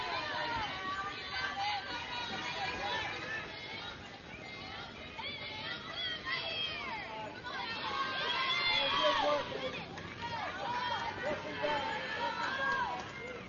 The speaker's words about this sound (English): And for being such a late game, we got plenty of noise here from the crowd and dugouts.